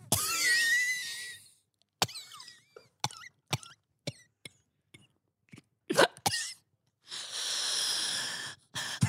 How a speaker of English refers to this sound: He coughs weakly, holding a tissue to his mouth.